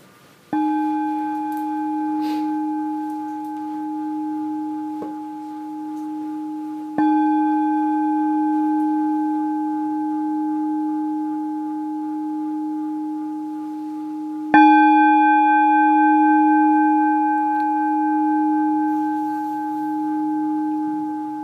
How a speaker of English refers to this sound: So I think we'll start with some bells this evening.